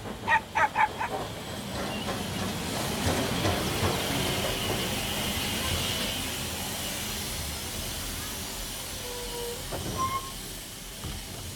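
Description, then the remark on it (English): A steam train pulls in at a station platform, a few quick chuffs giving way to a long, steady hiss of steam, with a brief metallic squeal near the end. No one speaks. “They wait on the platform. Mrs. Boot, Poppy and Sam watch the train come in.”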